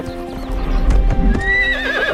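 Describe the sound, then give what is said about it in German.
A horse named Wellington runs, its hooves clip-clopping in a steady rhythm, and lets out a loud, wavering neigh toward the end, clear with no talking. “Da hat Jane ein Pferd wirklich sehr, sehr glücklich gemacht.”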